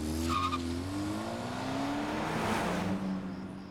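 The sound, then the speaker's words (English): A car engine revs and rises in pitch as the vehicle drives off from a home around 2:30 in the morning, tires briefly squealing, the steady engine drone continuing loud throughout with no voices. “back off at her home around 2:30 in the morning on the 24th and then drove off alone back to his estate.”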